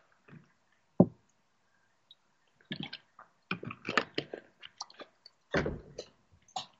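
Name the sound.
sipping a drink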